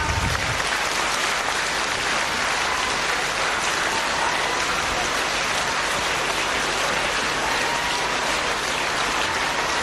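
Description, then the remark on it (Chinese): Sustained, dense applause from a large crowd welcoming station director Lu Junhong, steady and loud throughout with a crackling, rain-like texture of many hands clapping at once. “现在让我们用最热烈的掌声恭请尊敬的卢军宏台长。”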